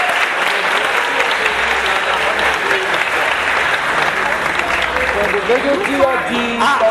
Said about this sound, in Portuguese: Uma salva de palmas